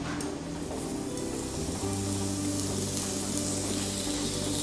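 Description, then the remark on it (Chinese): Meat rolls sizzle steadily as they pan-fry until cooked in a hot pan, a dense continuous crackle, with a low steady hum underneath and no talking. “这个就把它煎熟，等下翻面就可以。”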